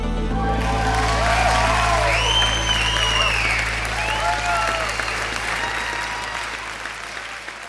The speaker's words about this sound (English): The cheer. That is my adrenaline.